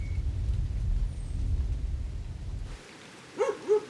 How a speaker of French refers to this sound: Jour 24. Ambiance extérieure jour après la pluie dans le Yunque. Tonnerre loin. Arbre qui goûte.